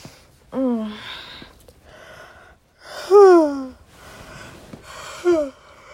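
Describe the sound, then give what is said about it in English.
Three yawns, each a breathy, voiced exhale that slides downward in pitch. The middle yawn is the longest and loudest, and the last is short. Quiet breathing fills the gaps between them. “I can't stop yawning.”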